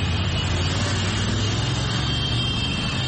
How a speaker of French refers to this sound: Une foule de supporters aux couleurs vert, jaune, rouge du drapeau national a de nouveau déferlé dans les rues. Objectif, saluer les champions d'Afrique à leur manière. Parade de centaines de mototaxis.